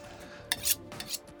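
Cutlery being sharpened: metal blades scraping against each other in quick repeated strokes, a sharp rasping hiss on each pass over a steady low hum, moderately loud.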